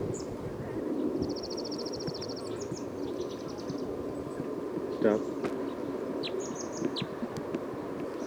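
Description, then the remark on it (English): Bird calls of bird number 312 being recorded: a rapid high-pitched trill, then scattered short chirps and whistles, over a steady low rumbling background. A voice speaks one brief word partway through. “Recording bird 312.”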